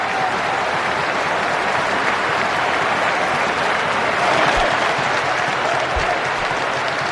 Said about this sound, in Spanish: espectacular, ¿eh? Un minuto aplaudiendo los jugadores.